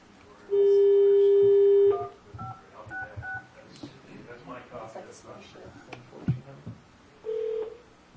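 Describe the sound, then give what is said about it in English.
A steady phone tone gives way to a quick run of short touch-tone beeps as an office phone number is dialed, with people talking and one more brief tone near the end. “you use his office phone number, don't you?”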